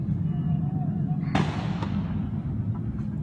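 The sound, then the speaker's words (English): Gunshots from police officers protecting Congressman Steve Scalise, firing back at a suspect, ring out over a steady low rumble: one sharp, loud crack followed half a second later by a fainter second shot, then a possible faint pop. “If he would not have been there, if Congressman Steve Scalise would not have been there, those are the police officers firing back, I believe, at the suspect.”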